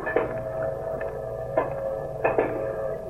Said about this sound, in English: That old train calling. Just a calling. Yeah, ain't no sound can say more than a train calling.